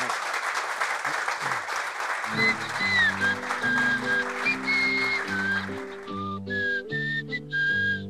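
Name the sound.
audience round of applause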